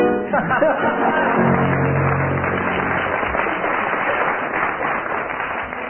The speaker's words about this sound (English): I didn't tell you, teams, that I should be awarding marks according to the strength and volume of the audience applause.